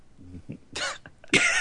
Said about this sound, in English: He's just gonna keep dying. He's having a cough attack or something right now.